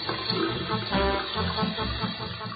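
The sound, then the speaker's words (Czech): Water runs steadily from a faucet with an adjustable stream into a large ceramic sink, a continuous splashing and gurgling rush that holds at an even level for a few seconds with no voices. “Česma je neprestalan izvor sveže vode sa podesivim mlazom koji curi ili kaplje u lavabo, što je velika keramička činija napravljena da može da ponese mačke bilo koje težine i veličine.”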